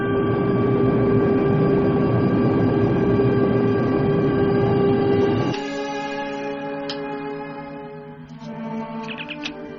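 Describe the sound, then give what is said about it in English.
A shuttlecraft launching from the Enterprise's shuttlecraft bay without authorization: a loud, steady engine roar with layered humming tones drops off after about five seconds into softer, wavering electronic tones and brief chirps. “Enterprise, why are you launching a shuttlecraft?”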